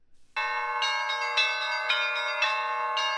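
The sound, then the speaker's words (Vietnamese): Eastern Orthodox church bells at a church on a sparsely populated island in Antarctica ring out loudly, rung by the priest to call people to a service, in a quick, irregular peal, fresh strikes landing every half second or so over a dense, sustained shimmer of overlapping tones. No voices. “Những tiếng chuông vang lên từ một nhà thờ chính thống giáo phương Đông ở miền cực Nam của thế giới.”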